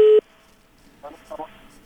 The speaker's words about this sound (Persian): مهربانی صاحب بفرمایین. این تلفن هم قطع شد. خیر، مشکل تلفنات داریم.